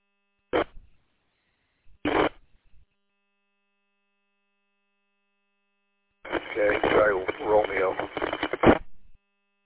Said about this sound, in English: On Richmond, there was a couple like bursts of static, so you like were enough to break the squelch or whatever to on the tone, but nothing was audible.